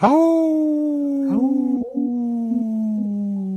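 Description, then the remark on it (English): A wolf howls in one long, loud, sustained note that starts higher and slowly slides downward, wavering slightly near the end, with no talking over it. “Hauling for Wolves. Protecting wolves for future generations.”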